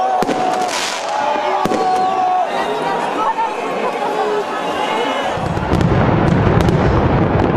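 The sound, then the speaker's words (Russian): Sharp firework bangs crack out every second or so over the steady roar of a large outdoor New Year's midnight crowd at the Eiffel Tower in Paris, France, as single volleys are launched from the crowd, with whistling rockets and a denser rumble of bursts swelling near the end. “Впрочем, из толпы все равно то и дело в небо взмывали одиночные залпы.”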